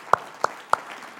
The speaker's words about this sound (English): So come on, let's stand to our feet and let's applaud